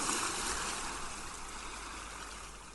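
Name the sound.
ocean surf waves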